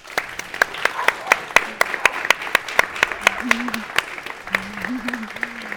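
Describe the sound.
An audience applauds steadily for several seconds, a dense patter of many hands with sharp individual claps standing out, while a low voice murmurs faintly underneath toward the end.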